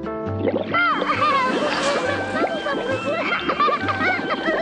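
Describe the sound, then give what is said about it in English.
Water splashes and sloshes steadily in a bubble bath as a girl is given a bath, fairly loud, while excited voices chatter and giggle over the top throughout. “I got your bubble bath. See? Pebbles, get all clean for tonight. Hey, …, make lots of bubbles.”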